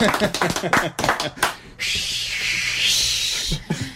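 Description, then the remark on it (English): A voice talks briefly on the K-Hem radio show, then a steady wash of applause from the crowd rises and holds for about two seconds, dense and even, before speech resumes over its tail. “Give them a hand.”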